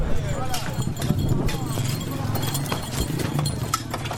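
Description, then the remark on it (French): Overlapping clip-clop of several horses' hooves on a hard road as horses pull market carts into the town's entrances for the Djéné fair, steady, with a busy murmur of voices and cart noise around them. “Tirés par des chevaux, mais aussi par des bœufs pour certains, les charrettes se bousculent à toutes les entrées de la ville.”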